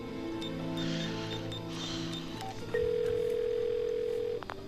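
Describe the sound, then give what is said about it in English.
A steady telephone dial tone hums loudly for about two seconds as a man places a call on his phone, preceded by faint electronic beeps and a low background drone, then cuts off abruptly. “He pulls up some X-ray scans, then gets on his phone.”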